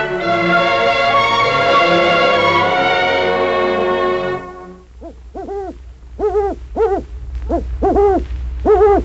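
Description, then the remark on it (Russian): A sustained, layered tone fades out, then an eagle owl gives a run of about seven hoots, fairly loud, in a loose, uneven rhythm with short gaps between calls. “Филин, а филин, это ты ухаешь?”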